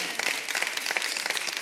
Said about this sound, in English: Yeah. All right. That was all the ladies clapping.